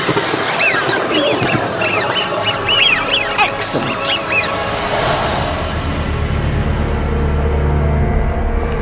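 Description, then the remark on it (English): A flock of birds chirps and twitters in a dense, overlapping chorus, loud, before a rushing whoosh and a low, steady rumble take over toward the end. “Turn them into a flock of birds.”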